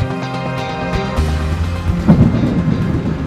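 Low, rolling thunder rumbles beneath a steady wash of rain, swelling louder partway through, with a sustained tonal drone running underneath the whole time.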